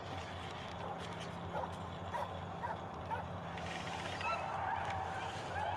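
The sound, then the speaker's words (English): A dog in a movie barks and whimpers in short, strained bursts over a dense, steady background noise, the calls mid-level rather than loud. “No, not the dog!”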